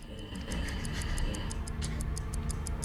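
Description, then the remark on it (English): A timer ticks steadily, crisp rapid clicks at an even pace, roughly five per second, over a low, tense droning rumble. No one speaks. “The timer continues ticking away at the back of her head.”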